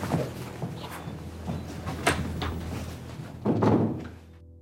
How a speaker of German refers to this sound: Würdest du bitte die Tür schließen, wenn du jetzt gehst?